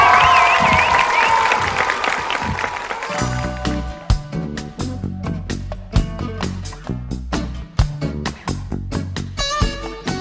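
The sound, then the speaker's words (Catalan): A crowd at the inauguration of a new playground, Pati 14, at the Miquel Utrillo school bursts into loud applause and cheering for about three seconds. Then upbeat music with a strong, steady beat takes over and plays to the end. “Bé, doncs queda inaugurat el Pati 14, un fort aplaudiment.”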